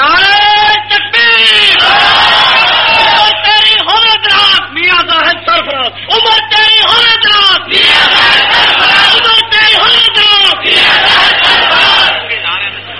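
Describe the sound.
A large crowd shouts slogans in rhythmic bursts, many voices rising and falling together in loud, continuous chanting with brief pauses between calls.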